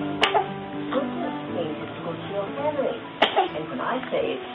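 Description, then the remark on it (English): A 5-week-old newborn boy with whooping cough gives two small, sharp coughs about three seconds apart, each a quick burst over steady background voices and soft vocal sounds, not very loud. “Just that little cough?”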